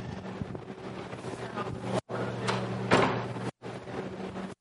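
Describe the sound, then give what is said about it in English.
A door is shut during a Bible sermon, making a single muffled thud partway through, set against a steady rumbling, wind-like background noise that briefly cuts out a couple of times. “I'm going to close the door a second.”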